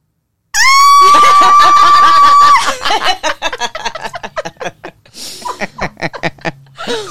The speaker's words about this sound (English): Why did I scream?